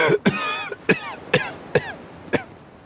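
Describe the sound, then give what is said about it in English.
A man's hard, racking coughing fit that doubles him over: about six harsh, forceful coughs in quick, steady succession, each with a rasping tail, loud with no talking. “The force of Trader's cough doubled him over.”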